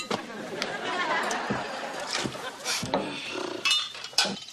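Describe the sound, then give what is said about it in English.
Dishes clatter and clink in a kitchen sink, a string of sharp, irregular knocks over a steady wash of noise, with indistinct voices murmuring underneath. “Well, those closest to me would say that I also dislike doing dishes. So, gentlemen, I give you the sink.”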